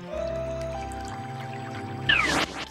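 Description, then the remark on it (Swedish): Water pours and drips steadily as it keeps rising around a shrinking island, over a low, sustained tonal hum, then a short, louder gush of water splashes in near the end. No one speaks. “Vattnet stiger hela tiden.”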